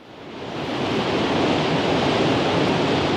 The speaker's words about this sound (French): Cascade, torrent, ça pourrait vous inspirer?